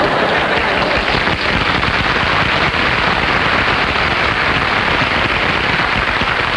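A studio audience applauds steadily, a dense, loud crackle of many hands clapping at once that holds an even level for several seconds with no voices over it.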